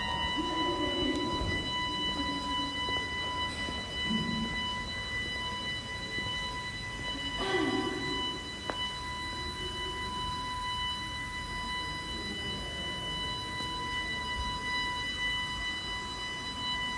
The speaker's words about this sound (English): Yeah, it was an organ. The guy was tuning it in, tuning the organ in, and it just sounded like a fire alarm going off. Yeah, it really did.